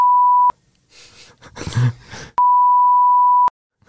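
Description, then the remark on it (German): Two loud, steady electronic tones on a phone line, each a flat beep lasting about half a second to a second, separated by a short stretch of breathy, muffled noise. “Oh, jetzt haben wir hier alles, es ist schon wieder so eine reine Rumgepiepe hier.”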